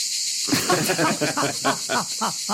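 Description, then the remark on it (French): A dense, steady chorus of cicadas buzzes and shrills continuously throughout, loud and unbroken, played in a cinema in place of a film's soundtrack during a fight scene, while indistinct voices murmur underneath after the first half-second. “cinéma muet au programme des cigales et pas de dialogue.”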